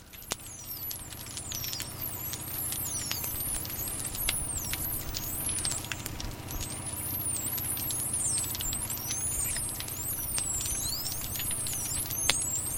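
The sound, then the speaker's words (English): A dense chorus of dolphin whistles from a pod of 90 dolphins in the cove at Taiji as they are slaughtered one by one, many overlapping high, sweeping squeals, laced with sharp clicks over a steady low underwater rumble, continuing without pause throughout. “This is a pod of 90 dolphins in the cove itself, and one by one they're being slaughtered. And these dolphins are communicating to each other.”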